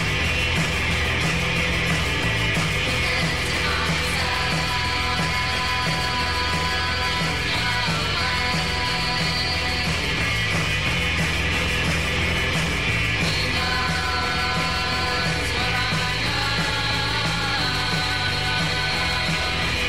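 A loud, dense indie rock song plays steadily throughout, with driving drums, fuzzy distorted guitars and a sustained wash of sound at an even volume from start to finish.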